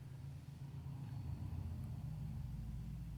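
A car engine rumbles steadily, a low idling drone that stays fairly constant throughout, with no one speaking: the car of a customer who is just arriving.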